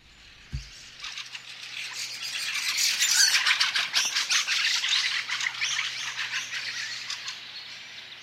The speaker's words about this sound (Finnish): Nyt on vuorossa viikon luontoääni Räkättirastas, eli Räksä.